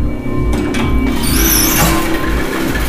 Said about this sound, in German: Okay, aber diese Tür muss echt mal WD-40 hier... Die braucht es.